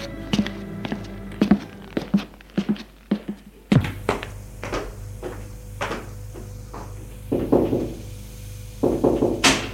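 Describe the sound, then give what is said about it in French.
A rapid run of sharp knocks on the wooden door of a father's office, followed by more scattered, uneven thumps and raps, clear, with no voices. “Le lendemain, elle va frapper à la porte du bureau de son père.”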